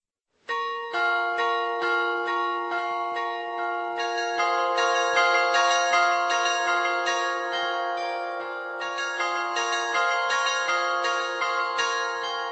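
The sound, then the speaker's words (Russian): Church bells peal continuously with quick, overlapping strikes, their rich metallic tones ringing on and blending into a steady, loud clangor for the whole stretch, with no voices. “Их объединяют сами колокола.”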